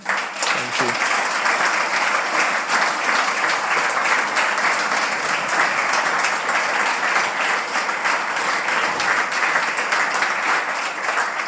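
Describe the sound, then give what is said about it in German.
Sustained audience applause for a guest of honour, a sportsman from RB, a dense, steady wash of many hands clapping at even loudness for about eleven seconds, with faint voices mixed in underneath. “Großen Applaus bitte.”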